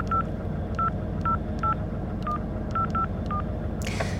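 signal or alarm, telephone number being dialed

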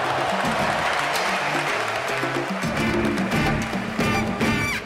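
crowd, stadium crowd applauding

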